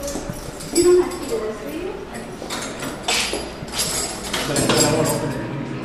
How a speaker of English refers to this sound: The thick steel door to the PHU rolls to the side.